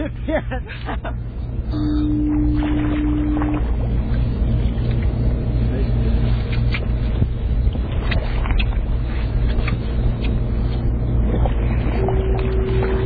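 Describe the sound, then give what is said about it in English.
Bubbles from two scuba divers rising underwater as they swim past the bow of a boat: a continuous gurgling, bubbling rush with repeated short bursts, over a steady low hum and a couple of brief whining tones. “So the two divers, as they wend their way across this, you can hear the bubbles and see the bubbles as they move along.”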